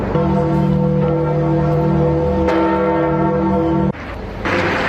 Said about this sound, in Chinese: 根据法新社现场的报道，在葬礼开始前不久，圣彼得大教堂的钟声响起。